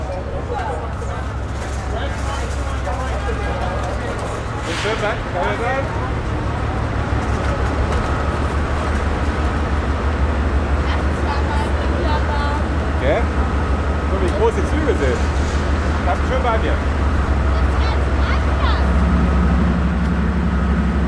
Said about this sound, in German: Diese Dieselloks sind wahnsinnig laut